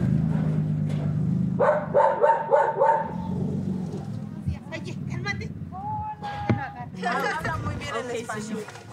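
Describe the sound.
Several dogs bark and yip excitedly, welcoming visitors arriving at a house with a gated dirt yard in Lomas de Poleo, a quick burst of overlapping barks followed by more scattered yelps, with people's voices chattering underneath and a faint engine hum.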